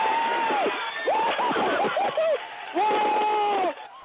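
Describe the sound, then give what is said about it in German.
A crowd at NASA mission control erupts in loud cheering after touchdown of the Mars rover Curiosity is confirmed, with whoops and shouts rising over a steady wash of clapping that carries on for a few seconds before easing off. “Groß war der Jubel bei der NASA, als vor einem Jahr das Landungsmodul in einem spektakulären Anflug ein Fahrzeug auf der Oberfläche absetzte.”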